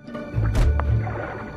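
A nautilus shell bumps into a resting octopus with a soft, muffled thud and a brief squishy burst, followed by a low, murky underwater rumble.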